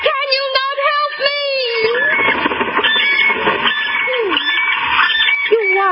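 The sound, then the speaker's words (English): Loud, rolling trumpeting calls of cranes, several birds overlapping in a dense, continuous chorus with rising and falling bugle-like notes, without any speech. “Oh, you cranes, you birds of the gods.”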